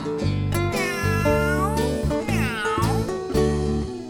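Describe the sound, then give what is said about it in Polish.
Cat meows ring out loud over a steady musical backing with a repeating bass line, in a song about a cat on a fence, including one long, sliding meow near the middle. “Kociechun swocie, co robisz na płocie? Mruczy i skacze, ptaka łapie w locie.”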